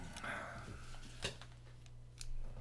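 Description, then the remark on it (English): Scissors snip through a packet of salt and lemon powder in one sharp, crisp cut, followed by a couple of faint clicks, over a low steady hum and some muffled voices. “I got scissors right here.”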